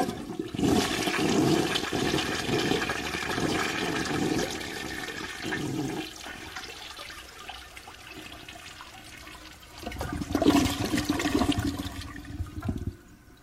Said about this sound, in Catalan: Hem escoltat un vàter?